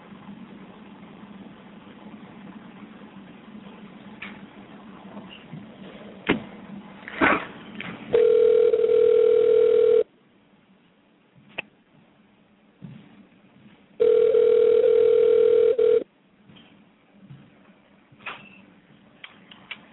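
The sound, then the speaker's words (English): A telephone line tone sounds in two long, steady beeps, each about two seconds, separated by a pause, loud and clear over a low rumbling background hum with a few clicks, as a phone call is being placed. “But let's get Justin on the phone and see what he thinks about his MMA career.”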